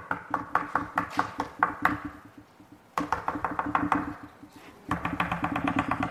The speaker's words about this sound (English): I'm knocking. Are you going to open?